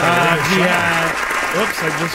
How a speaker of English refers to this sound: Sorry. Dolphins have nothing to do with this. The applause is right next to the dolphin button.